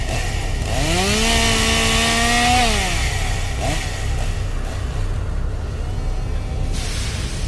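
A chainsaw wielded by a costumed maniac at Haunted Overload in Lee, New Hampshire revs up loudly, its engine pitch climbing and holding high before dropping back to a rough idle, continuous with no talking.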